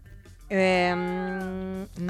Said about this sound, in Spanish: ¡Ay, qué pista sonora! ¿Un gato? ¡Claro que sí!